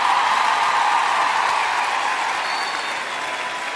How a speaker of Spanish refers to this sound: Sí, señor, un aplauso para ella muy fuerte.